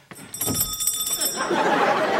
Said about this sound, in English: Okay, I just rang my bell, okay?